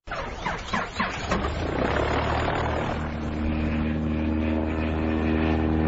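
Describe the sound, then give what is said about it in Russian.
A vehicle engine cranks with a few rough, sputtering bursts, then catches and settles into a loud, steady droning rumble with a buzzing tone as it pulls away. No voices. “Пристегнитесь, мы трогаемся.”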